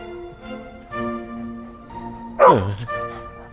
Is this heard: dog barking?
yes